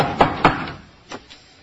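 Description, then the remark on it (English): Knocking on a door: two firm raps close together, then after a brief pause two softer, duller knocks, with no voices. “You know, once you're inside, you don't have to knock anymore.”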